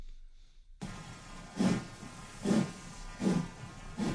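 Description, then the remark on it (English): A steam train pulling away, with slow, rhythmic chuffs of steam over a steady hiss. About four evenly spaced bursts follow a brief silence, moderately loud, with no talking. “Is that the Gronk train leaving the station?”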